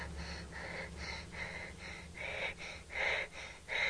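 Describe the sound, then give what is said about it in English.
Heavy, anxious breathing of a boy hiding inside a wardrobe, alone: quick, rhythmic gasping breaths about twice a second, each a raspy rush of air that grows louder and more strained toward the end. “Stop breathing like that.”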